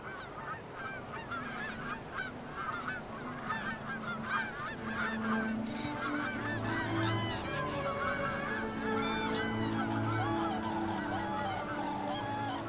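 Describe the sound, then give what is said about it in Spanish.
A large flock of geese at the ephemeral wetland waters where they winter honks continuously, many overlapping calls forming a dense, noisy chorus with frequent sharp, rising cries standing out above the constant clamor. “Las grullas o los gansos no podrían sobrevivir sin estas aguas efímeras que les sirven de hogar invernal, de refugio y de descanso.”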